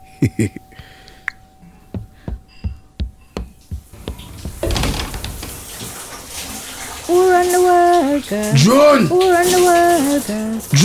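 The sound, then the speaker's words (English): A few sharp knocks and clicks, then a shower starts running with a steady hiss of water. Partway through, someone sings loudly over the spray. “Me not tell you the shower time is my time.”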